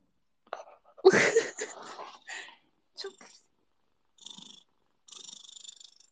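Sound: cat purring into microphone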